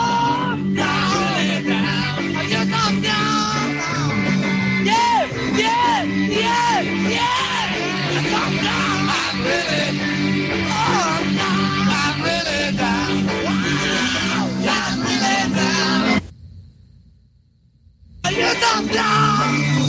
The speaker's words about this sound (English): They just kept screaming the whole time. Yeah, nonstop. Yeah. And they're far away from the crowd, so those microphones are still picking up all that sound from them. I don't know how many people were there. That's maybe 40,000 people screaming